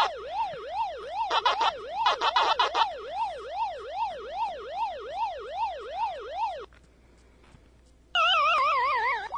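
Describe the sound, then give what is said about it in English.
A looping electronic siren from an arcade game, the Pac-Man ghosts' chase tone, rises and falls in quick, even sweeps, broken by bursts of chiming effects, then a brief pause and a faster, higher warble. “Ghosts chasing you down a never-ending maze in Pac-Man?”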